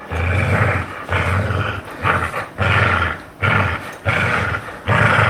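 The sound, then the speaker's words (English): A dog growls during play, loud, in a run of rough, rumbling bursts broken by brief pauses, roughly six pulses over several seconds with no voices. “Growl B was the play growl.”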